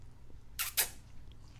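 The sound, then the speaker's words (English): Two quick kissing smacks in a row, bright and crisp, standing out over a low, steady background hum with no talking. “Aw, kissy sounds.”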